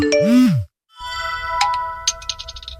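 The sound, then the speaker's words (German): A WhatsApp message notification tone: a quick swooping blip, a brief pause, then a sustained bright chime with several rapid tinkling pings. Clear, with no one talking. “Meistens telefonieren die beiden allerdings und schreiben sich WhatsApp-Nachrichten, denn ein Liebesbrief klingt heute meistens ja doch so.”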